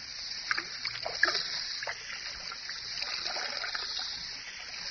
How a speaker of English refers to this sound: Ah, there's the whiskey, still half full. Pour most of it out, so that it will look as though we had even more to drink.